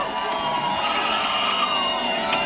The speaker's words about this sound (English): Her election night watch party was at the Park Hotel on Madison's Capitol Square, and when the race was called, the crowd erupted.